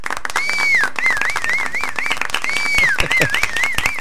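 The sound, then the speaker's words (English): A loud, steady round of applause with dense clapping throughout, while a high warbling whistle sweeps up and down twice over the top. “Yeah, we haven't done a round of applause or this is phenomenal.”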